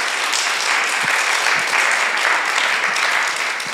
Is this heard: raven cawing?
no